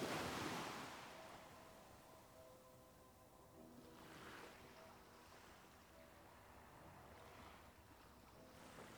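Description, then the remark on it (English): Ocean waves wash onto the shore of a small peninsula formed by a sandy spit in broad, hissing surges, one strong crash at the start followed by softer swells about every few seconds, with steady wind rumble underneath and no voices. “The waves crashing onto the shore create a peaceful atmosphere.”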